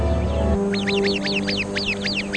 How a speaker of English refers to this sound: The sentry bird immediately sounds the alarm. The flock comes together for protection. The birds also try to disturb the snake and distract it.